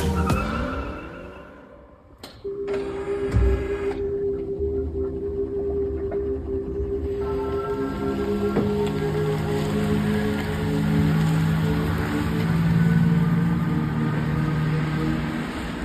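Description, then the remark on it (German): A car's electric motor whirs with a steady tonal whine that shifts in pitch as it moves, over a broad rush of road and tyre noise, fairly loud. “Elektro. Ja, Elektro, Surren, recht unspektakulär.”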